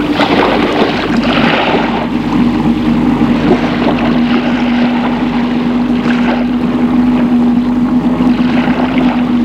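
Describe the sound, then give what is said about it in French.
A boat engine starts and runs loud in an empty sea port, a steady droning hum with a constant low tone, churning water noise underneath, and no talking throughout. “Ils embarquent et mettent le bateau en marche.”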